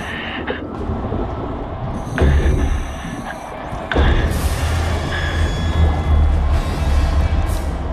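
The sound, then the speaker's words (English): Heavy metallic banging and clanking as a hatch is sealed with a torch on a boat, over a loud, low mechanical rumble, with a couple of sharp, powerful thuds standing out and a steady hiss running underneath. “The sound of weaver banging attracts sharks in the nearby waters.”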